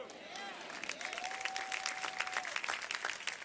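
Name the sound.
scattered applause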